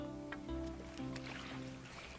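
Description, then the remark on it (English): Water gently sloshing and lapping against a small boat on a calm lake at a fishing spot, steady, with soft sustained musical tones humming underneath and no voices. “Remember, we're on a boat.”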